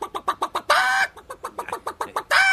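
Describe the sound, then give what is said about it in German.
A person imitates clucking hens with a quick series of short, rhythmic clucks, broken twice by longer, drawn-out squawking calls, delivered fairly loud with no other talk. “Na ja, ein paar Hennen vielleicht. Ja. Solche nicht. Das sind ja Enten. Hennen gehen so.”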